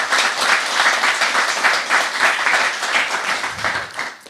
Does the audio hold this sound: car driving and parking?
no